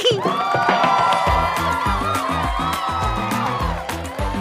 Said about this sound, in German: Flipsi findet's raus, schickt mir einen Applaus.